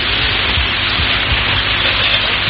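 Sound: rain falling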